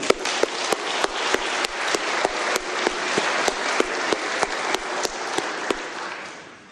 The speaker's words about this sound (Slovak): A ešte jeden potlesk k tomu.